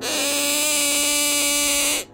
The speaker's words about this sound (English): So I'm blowing into this whistle kind of thing, and it's got the terrifying face of Bigfoot on it. And, it's made by someone called Play Visions, which, of course, is Chinese.